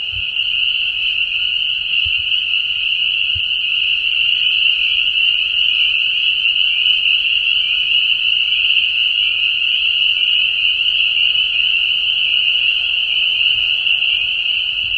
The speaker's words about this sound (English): Peepers are hard because they drowned out other noises. So some of the frogs make snoring noises. And that's what I thought I might hear. Pickerel frog was a possibility here. Might hear leopard frogs. They make a nice snoring sound.